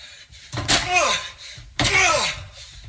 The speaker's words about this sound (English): Let's hear it for those doors, though, huh? Yeah. You never think they would last 72 pickaxe attacks. I mean, he eventually gets in.